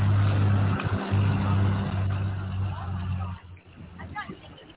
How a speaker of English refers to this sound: So this is Greg hooking up to the sled. A Freightliner Classic 1998 model.